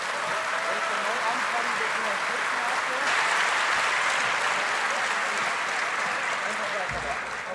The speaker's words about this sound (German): Bitteschön, und gebt ihr nochmal einen dicken Applaus!